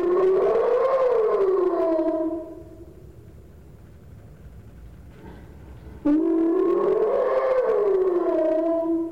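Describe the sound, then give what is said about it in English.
A hyena's slow whoop call: two long, rising-then-falling moaning whoops with strong harmonics, separated by a pause of about three and a half seconds, loud with no talking. “We also have what's called a slow whoop, and it's providing information from one individual to others.”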